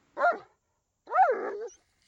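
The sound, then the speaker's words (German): A slightly fat dog lets out a short, sharp bark, then after a brief pause gives a longer, drawn-out whimpering whine, with no one talking. “Hunde lieben es, spazieren zu gehen.”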